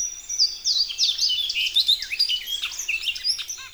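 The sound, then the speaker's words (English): A bunting sings from an elevated perch at the forest edge, a bright, high, rapid song of chirps and sweeping notes, continuous, with no voices present. “Female buntings know what they like, and arriving from Mexico and Central America, they search for just such an ecotone.”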